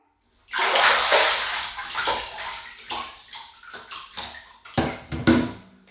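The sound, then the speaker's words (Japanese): Water sloshes loudly as someone climbs out of a bathtub to go to the washing area, a broad splashing surge followed by a series of uneven splashes and drips that fade and return in bursts. “まずは、お風呂から上がって、洗い場に行こう。”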